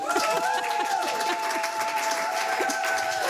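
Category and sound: crowd, thunderous applause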